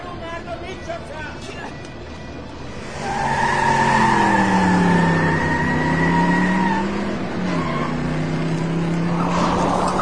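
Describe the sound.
A Ford Spyder car engine revs up loudly, its pitch dipping and then climbing as it accelerates and pulls away, with voices and background noise around it.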